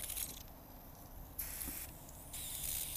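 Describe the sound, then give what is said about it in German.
Bursts of hissing spray from a can of leak detection spray sprayed onto a Mitsubishi Space Star car, three short sprays separated by brief pauses, fairly loud over a low rumbling background. “Ein bisschen mehr drauf sprühen.”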